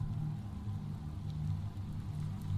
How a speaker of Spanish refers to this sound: Esa noche llovía. A las 10 me fui a dormir, pero la tormenta arreció al mismo tiempo y no me dejaba hacerlo.